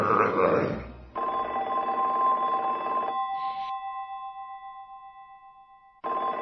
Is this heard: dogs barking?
no